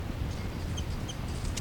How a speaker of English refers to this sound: Up close to the birds here. That's 3-3 chitter. 5-9 response.